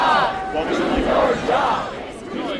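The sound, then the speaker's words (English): A protesting crowd at a rally held by House and Senate Democrats against Trump's executive order on refugees and immigrants chants "Do your job". Many voices shout together in a loud, steady roar with rising and falling vocal swells throughout. “When House and Senate Democrats held a rally last night to oppose Trump's executive order on refugees and immigrants, the crowd wasn't all on their side.”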